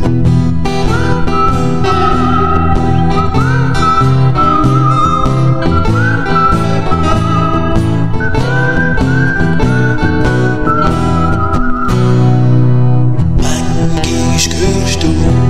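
A whistled melody glides over a full band playing a steady, laid-back groove, loud and continuous, with the backing swelling into a brighter, sustained passage near the end.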